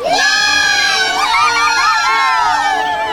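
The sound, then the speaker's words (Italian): A class of schoolchildren shouting and squealing with joy, their high overlapping voices loud, sustained throughout without a pause. “Lo Spenchuf della maestra fu seguito da grida di gioia della classe, che videro attraverso i finestrini la testa pietrificata della maestra colare a picco.”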